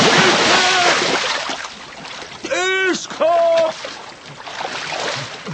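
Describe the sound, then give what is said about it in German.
Water sloshes and splashes steadily around a small boat as it rocks and nearly capsizes while a heavy treasure chest is heaved aboard, while voices let out a few sharp, rising cries of alarm midway through. “Der Kahn ist fast umgekippt, aber die Schatztruhe ist drin geblieben.”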